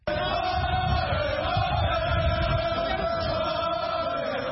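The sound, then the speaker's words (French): A huge crowd, gathered at an opposition leader's home in Dakar, Senegal, after his release, roars and shouts victory cries in a continuous, dense wall of voices, with cheering and chant-like cries sustained at steady loudness throughout. “Avec des cris de victoire, Ousmane Sonko a été accueilli par une immense foule”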